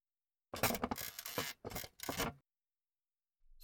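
A chair creaks and groans in two drawn-out bursts as someone sits down and their weight settles onto it, loud, then falls quiet with a faint shuffle at the end.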